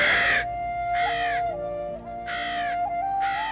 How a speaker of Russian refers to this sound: Но в один из дней на окно их Фанзы приземлился черный ворон и закаркал.